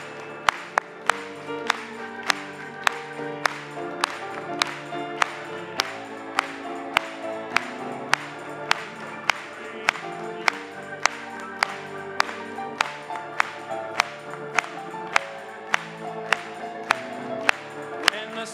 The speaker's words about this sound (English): Let's clap it to him.